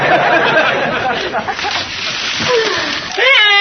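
A muffled, gurgling scream seems to come from beneath churning, sloshing water for several seconds, then breaks into a louder, strained vocal cry at the very end.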